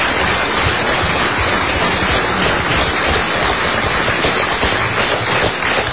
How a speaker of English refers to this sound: I think they deserve a good round of applause just for their generosity.